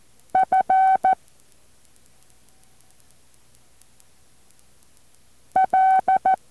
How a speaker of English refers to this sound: Don't look at your paper that you have all those dots and dashes written down on. Just keep copying.